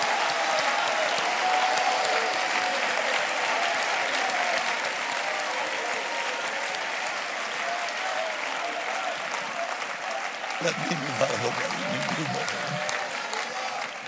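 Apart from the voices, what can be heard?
audience clapping and shouting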